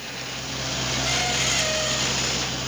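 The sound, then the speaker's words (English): Heavy machinery drones steadily as a crane loads coal onto a truck at the docks in Belgrade, a continuous engine rumble with a broad mechanical hiss and no voices. “A crane loads coal onto a truck down near the docks in Belgrade.”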